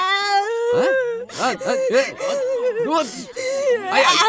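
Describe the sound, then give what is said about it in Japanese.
A male performer imitates a child wailing and sobbing, with long, quavering cries that rise and fall, broken into several bursts and catching breaths, loud. “分かったよ、分かったから泣くんじゃねえ。”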